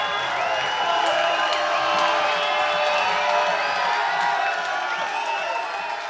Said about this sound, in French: Ah, quand on chante des conneries, vous applaudissez, hein.